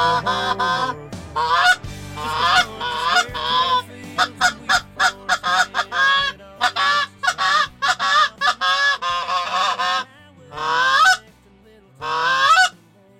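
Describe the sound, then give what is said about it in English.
A flock of geese honks loudly and continuously, overlapping nasal calls in quick irregular bursts, with a couple of longer drawn-out honks near the end and no talking. “And the last thing I wanted to do was have geese come closer to the airplane while we”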